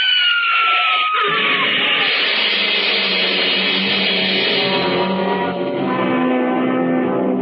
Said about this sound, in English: It was a big black hearse with no lights on, pulling out of the cemetery. Lucky I had good brakes. We skidded for about 20 feet and slammed into the back of the hearse. The two rear doors buckled and snapped open.